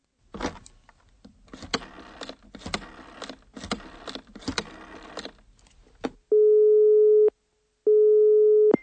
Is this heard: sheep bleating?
no